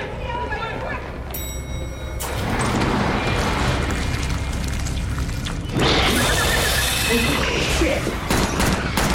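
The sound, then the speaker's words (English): A chaotic burst of gunfire, dense crackling shots building into a loud, sustained fusillade, with a second surge of louder, sharper bangs later, mixed with indistinct shouting voices. “Those are gunshots.”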